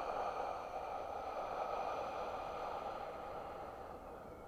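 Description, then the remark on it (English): A long, slow breath out during a guided breathing exercise, a soft airy rush that holds steady for several seconds before gently tapering, quiet with no talking. “Exhale.”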